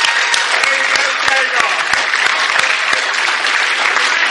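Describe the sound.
Loud, sustained audience applause with dense, crackling clapping that holds steady throughout, with faint voices mixed in beneath the claps.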